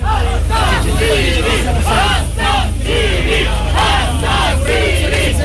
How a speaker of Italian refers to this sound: 25 agosto 2018, Catania, io ero ministro dell'interno, l'estrema sinistra manifesta per chiedere lo sbarco degli immigrati dalla nave Diciotti, la folla urla assassini e animali in faccia alla polizia